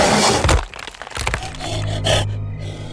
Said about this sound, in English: His heart beat so fast that it muted everything else except for an approaching gallop. As quick as he realized what the noise was, the second beast slammed into the blind's face.